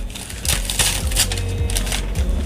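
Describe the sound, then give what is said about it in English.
Newspaper (the Daily) used as wrapping on a birthday present being torn open, a steady run of crinkly, crackling rips and rustles lasting a couple of seconds, with no one talking. “I also didn't have wrapping paper, so I used newspaper.”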